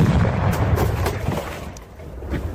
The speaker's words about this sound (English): That's a series of bad decisions. But this is what it sounds like when a refrigerator blows up and nearly kills a redneck.